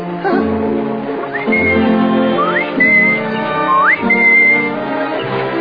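A person whistles a bright, lilting melody with sliding upward swoops between held notes, loud, over a steady bed of instrumental accompaniment.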